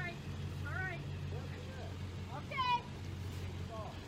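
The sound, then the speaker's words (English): A diesel truck engine idles steadily throughout, a deep continuous rumble, while voices call out over it in short bursts. “Coach can't see or hear in the truck with the diesel running.”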